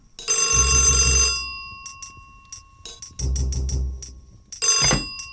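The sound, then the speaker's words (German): An old-style telephone bell rings in loud metallic bursts, three long rings separated by pauses with faint clicks between them, bright and clattering over a low rumble. The call is from a police commissioner. “Der Kommissar klingelt ein paar Mal am Tage an.”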